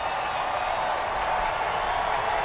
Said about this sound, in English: Crowd getting loud here at Oracle. Two runs in for the crew. A 4-2 Giants lead.